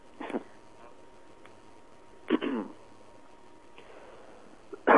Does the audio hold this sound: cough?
yes